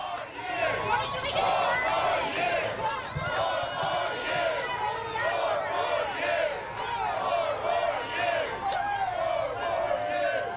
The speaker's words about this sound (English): Here's his reception. There's a huge crowd outside.